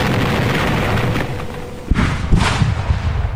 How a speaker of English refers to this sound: An incoming shell landed just beside the leading mule. It exploded, killing the animal instantly and igniting a secondary explosion of the munitions it was carrying.